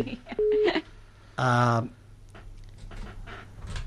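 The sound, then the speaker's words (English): A short electronic phone tone beeps, then a loud, buzzy telephone signal blares for about half a second, cutting across a broadcast with faint talk continuing underneath, as the studio has problems with its phone lines. “We're having problems with the phones here.”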